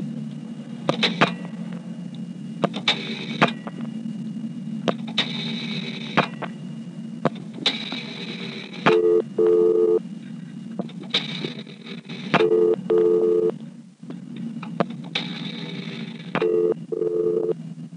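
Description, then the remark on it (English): During a telephone dial pulse test, several digits other than 0 and then 0 are dialed as a series of short bursts and paired tones over a steady low hum, followed by a beep from the line in response to the 0. No one speaks. “Now I'll dial several digits other than 0, and then 0, to which it will respond with a beep.”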